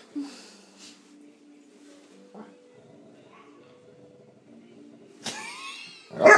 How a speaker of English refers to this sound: Maybe we should be discouraging the barking, but we encourage it. He's only seen do it while I'm here.